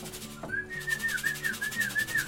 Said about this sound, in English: It seemed obvious to me that now was the time to build a pigeon loft in my garden and reanimate my old love of these creatures. Just give them a whistle.